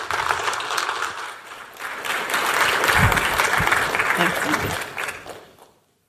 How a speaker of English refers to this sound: A big round of applause and warm welcome